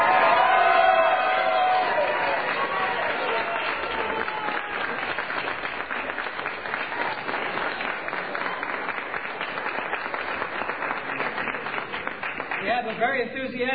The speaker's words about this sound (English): Enthusiastic crowd here, as you can hear.